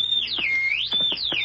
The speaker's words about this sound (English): The whistle.